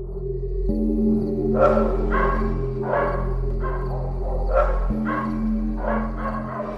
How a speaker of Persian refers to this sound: بعد 2-3 ساعت از خواب بیدار شدم، اونم با سر و صدای واق واق کردن سگای اون اطراف. نزدیکای 5-6 صبح بود و هوا هنوز کامل روشن نشده بود. خیلی غیر عادی سر صدا می‌کردن.